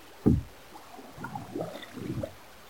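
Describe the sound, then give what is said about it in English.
Rowing a small boat on white water: a knock against the hull, then a few rhythmic swishing oar strokes and watery splashes, moderately quiet, with no voices. “There's nothing but good seamen in this boat.”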